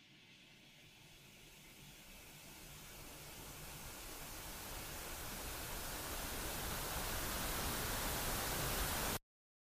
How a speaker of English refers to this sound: but mainly because I found something soothing that puts me under every night. The interstellar soup of radio waves that play out as static on a television that seemingly has nothing else to broadcast.